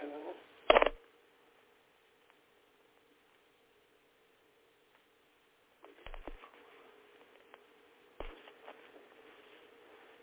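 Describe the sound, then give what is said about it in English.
Papers being rustled and shuffled as someone searches for a paper to read aloud: a sharp crinkling burst near the start, a long quiet stretch, then more intermittent handling and flipping toward the end, slightly muffled. “I was trying to find that paper that I wanted to read to them.”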